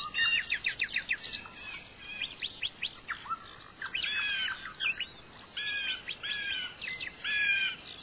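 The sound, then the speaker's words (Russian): Several bright birds sing and chirp continuously on forest branches in quick, high trilling phrases, rising and falling in loudness, with a soft outdoor hush underneath and no voices. “На ветвях поют яркие птицы, то громче, то тише.”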